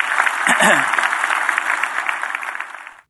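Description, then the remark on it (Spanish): A church audience claps steadily for God with dense, overlapping handclaps, while a voice speaks briefly over the start before the applause continues and cuts off abruptly. “Si Dios te habló, da un aplauso al Señor, que Él se lo merece.”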